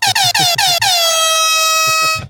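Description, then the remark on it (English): Loud, blaring air horn: a rapid string of about four short blasts, then one long sustained honk that holds for over a second before cutting off. No one speaks. “Still like air horns.”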